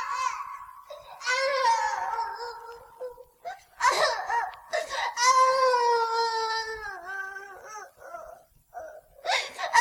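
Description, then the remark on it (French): A baby cries loudly in long, wavering wails with short breaks between them, the pitch rising and falling. No one talks. “Je te montrerai une magie qui fera rire ton bébé aussi fort qu'il pleure à présent.”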